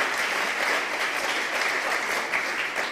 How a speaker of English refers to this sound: Let's just give the Lord a clap.